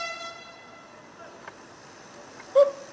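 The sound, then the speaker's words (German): During a Werder Bremen training-camp bike tour, a steady, buzzy horn tone sounds faintly and fades out, followed by a couple of soft clicks and then a short, louder honk as footballer Clemens Fritz imitates the horn with his voice. “Es gibt diese Szene aus dem Trainingslager, in der Clemens Fritz radelt, macht ja so eine Radtour, die Werder-Profis da, und Clemens Fritz hört erst so eine Hupe und macht die Hupe dann nach.”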